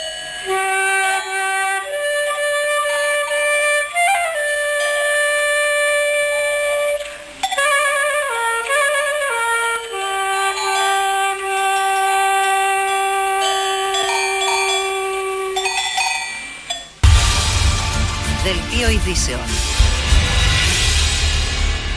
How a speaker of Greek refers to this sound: ακούστε, ακούστε καμπάνες.